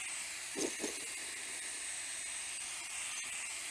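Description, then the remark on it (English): A steady, loud roar of hissing steam from a steam locomotive's safety valves lifting because the boiler has plenty of steam, continuous throughout, with a couple of brief low thumps near the start and no voices. “So we've got plenty of steam, the safeties are lifting.”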